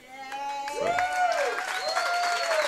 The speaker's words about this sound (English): What a special night. Let's give another big cheer tonight to the birthday guy, Tamba Holly. Happy birthday.